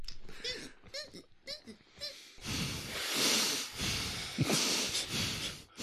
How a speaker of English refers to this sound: So it just sounded like a conventional heavy breathing.